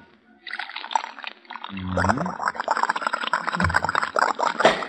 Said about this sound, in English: Well, here's one more. Pour some of this in the shaving mug.